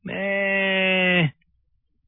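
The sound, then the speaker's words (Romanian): A single drawn-out bleat from a sheep far away, answering a person calling for it, steady and fairly loud with a buzzing, even pitch, lasting just over a second before cutting off into silence. “Deodată se auzi un beheit slab de departe.”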